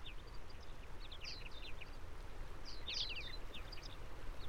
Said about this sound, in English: You will hear ambient and natural sounds, which will enhance your relaxing experience. Listen to the birds, water, and natural ambience carefully selected for its pure and positive intention for your health.